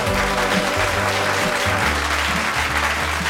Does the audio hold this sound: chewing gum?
no